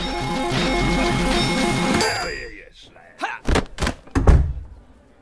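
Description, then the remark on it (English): Busy electronic tones cut off, then a few heavy thuds as the two sets of entrance doors of the Albert Pub swing shut while someone is ejected onto the pavement, one after another in quick succession, with the last bang the loudest. “I was ejected from a bygone era through the two sets of entrance doors before being roughly deposited onto the modern tarmacked pavement outside.”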